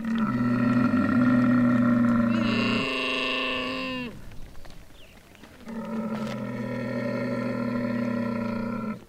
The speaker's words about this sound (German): Und mittags pünktlich um 12 ziehen lange Reihen Kühe, Ziegen, Kamele dicht an uns vorbei zu den Wasserstellen. Wo kommen die nur alle her? Ab und zu ruft ein Kamel. Begrüßt es die anderen oder sagt es, hier ist mein Platz?